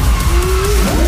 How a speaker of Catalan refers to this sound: Dos senyors conduint molt ràpid un cotxe pels carrers de què deu ser això, de Los Angeles. Sí, Los Angeles.